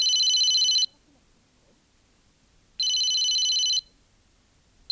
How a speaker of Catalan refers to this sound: Just quan aquests senyors de la premsa acabaven d'arribar, ha sonat el telèfon de la morta